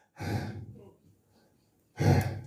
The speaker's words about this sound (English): They were breathing, breathing out, breathing, breathing out.